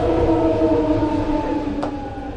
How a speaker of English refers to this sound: It's hard to imagine a setting more urban than a Bay Area Rapid Transit or BART station in downtown San Francisco. In the tunnels below Market Street, trains are constantly coming and going.